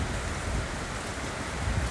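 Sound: rain falling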